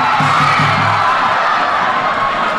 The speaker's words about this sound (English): As the game wears on, the crowd grows anxious. The crowd fluctuates in noise as the ball gets closer and closer to the goal. A Korean player takes a shot that just goes over the goal.